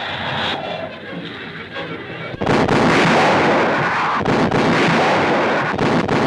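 Depth charge explosions: a steady rumbling roar gives way to a sudden, loud blast that swells into a sustained, churning boom, briefly dipping twice before roaring on. No one speaks.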